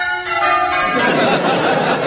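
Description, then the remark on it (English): Church wedding bells ring out loud, their sustained metallic tones overlapping into a dense, shimmering peal, with a faint murmur of crowd chatter beneath. “But just listen to those bells. Aren't they magnificent?”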